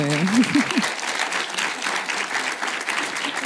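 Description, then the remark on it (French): A crowd applauds steadily, the dense clapping holding at an even, fairly loud level throughout. A brief voice rises over it at the very start. “Vous pouvez applaudir.”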